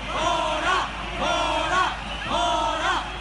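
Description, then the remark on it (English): A large crowd at a vigil or march in Barcelona, Spain, chants the Catalan slogan "No tinc por" (I am not afraid), the same loud phrase shouted in unison three times in a steady rhythm, with a slight echo as if outdoors. “No tinc por, I am not afraid, they chant in the local Catalan language at vigils and marches across Barcelona since IS killed 16 people in and around the city.”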